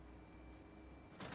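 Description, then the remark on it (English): A door of a bar opens near the end as a smiling woman walks through it, a quick pair of scraping, rushing bursts breaking a quiet hum; no one speaks. “With a beaming smile, April walks through the door and Lucas stops still.”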